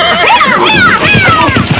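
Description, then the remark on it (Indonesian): A hungry horse, not fed since the morning, whinnies loudly, a long wavering neigh with rising and falling pitch that fills the whole short moment. “Kuda itu lapar. Nanti dia ngamuk di jalanan.”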